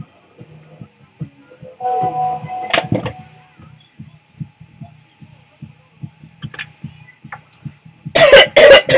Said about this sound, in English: This is a test cough.